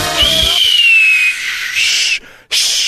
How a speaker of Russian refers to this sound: Свистеть не умею.